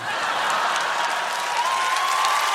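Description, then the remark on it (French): Steady audience applause, a dense wash of many hands clapping at an even, fairly loud level throughout, with a faint tonal whistle running beneath it and no talking. “Ah mais n'applaudissez pas.”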